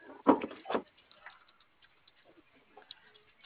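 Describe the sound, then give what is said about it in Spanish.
Two quick, solid mechanical clunks close together as the first door of a car is locked remotely, followed by quiet, faint background noise. “A ver, ahí va la primera puerta.”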